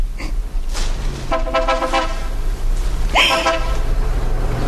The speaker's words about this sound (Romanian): În clipa aceea s-a auzit zgomotul unei mașini. Fata a tresărit speriată.